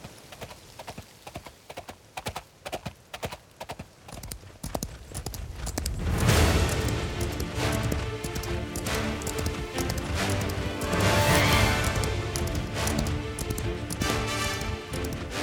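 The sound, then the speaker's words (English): The horse Black Beauty gallops swiftly along a cliffside path in a sea breeze, his hooves beating out a quick, steady rhythm of sharp clops; then a loud rushing, roaring wash swells in partway through as the hoofbeats carry on underneath. “Black Beauty's long mane fluttered in the sea breeze as he galloped swiftly along the cliffside path.”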